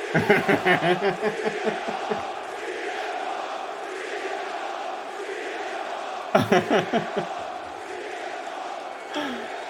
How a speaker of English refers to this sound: They're crowd chanting.